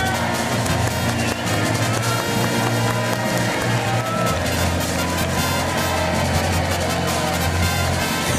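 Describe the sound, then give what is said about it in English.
A large crowd boos loudly and steadily at the Tina Awards, a thick low-pitched jeering roar that fills the whole stretch without letting up, with no clear speech standing out. “They booing.”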